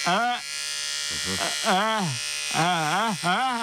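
Electric clippers buzz steadily for a few seconds, their harmonic drone bending up and down in pitch in repeated swoops, with a brief lower dip partway through.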